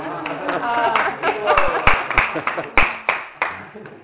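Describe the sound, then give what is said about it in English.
Several sharp hand claps ring out at irregular intervals, fairly loud, mixed in with people talking in the background; the clapping is for someone who is number one this year. “You are clapping?”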